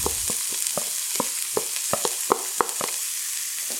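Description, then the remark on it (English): Thinly sliced onions and bell peppers sizzle steadily in a hot skillet over somewhat high heat, a dense hiss broken by irregular sharp pops and crackles roughly every quarter second, with no voices. “And I want the heat somewhat high because I want to get just a little bit of color on these onions and peppers.”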